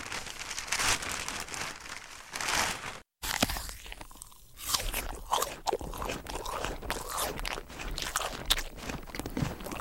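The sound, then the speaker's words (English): Crisp crunching of someone munching an apple, with repeated wet bites and chewing over about ten seconds, briefly cut by a short gap near the start. “We heard there snoring, clicking pens, slurping, rustling newspaper and munching an apple.”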